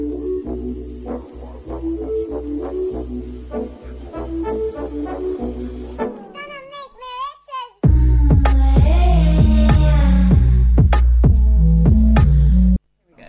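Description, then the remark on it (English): A pop song with heavy, booming bass and a punchy beat plays loud, dropping into a brief melodic vocal break before crashing back in even harder with no talking. “We'll be back after this song.”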